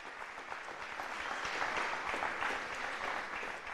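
A crowd claps steadily for several seconds for people about to be baptized, a dense, even wash of many hands with no voices standing out, holding a fairly constant loudness throughout.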